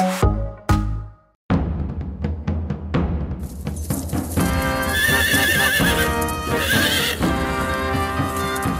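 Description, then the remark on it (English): Hooves clip-clop in a quick run of sharp knocks, then a horse gives a loud, wavering neigh that trails on over a dense, sustained background, with no talking. “Horses were an important part of life in the Middle Ages.”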